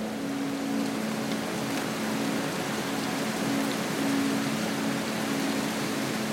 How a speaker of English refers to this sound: Then, as if some serendipitous moment had occurred, the heavens had opened and the rain had poured.